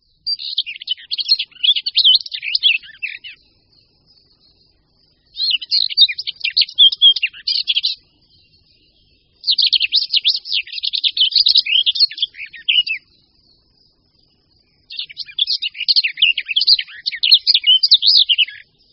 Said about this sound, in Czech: Od podobného zpěvu pěnice Černohlavé se liší v několika bodech, jednak je mnohem delší a potom nedochází tam k tak ostrému zvyšování hlasitosti a výšky tónu jako u pěnice Černohlavé. Jinak ovšem je pěnice Slavíková vynikajícím zpěvákem také.